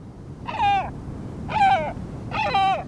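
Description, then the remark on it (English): Three deep, hoarse gull calls from a great black-backed gull, the world's largest gull, evenly spaced about a second apart, each a short harmonic squawk, moderately loud over a faint background hiss. “It's a great black-backed gull, the world's largest gull.”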